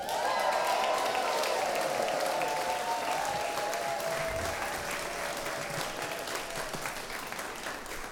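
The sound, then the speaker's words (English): An audience applauds for immigrants steadily for about eight seconds, a dense wash of many hands clapping with some cheering voices early on, easing slightly toward the end, at a presentation of a symphonic oratorio by Frank London about immigrants. “Let's hear it for immigrants.”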